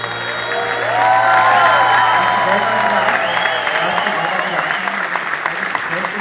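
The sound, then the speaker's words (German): An audience claps steadily and loudly for several seconds, a dense wash of applause with a few shouts and cheering voices rising over it, applauding two singers after their song. “Und euer Applaus für die beiden Mann.”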